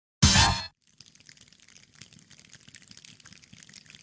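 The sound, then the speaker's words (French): The choir Perpetuum Jezreel imitates rain using only hands and feet: a brief loud burst opens, then a steady, dense patter of soft taps and crackles builds like a heavy downpour. “C'est la chorale Perpetuum Jezreel qui fait ça. Rien qu'avec les mains et les pieds.”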